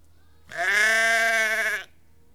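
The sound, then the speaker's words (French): A single loud bleat from a sheep in a flock, drawn out for over a second with a wavering, nasal tone, heard on its own against a faint low hum. “Si j'étais un animal, je serais un mouton dans un troupeau.”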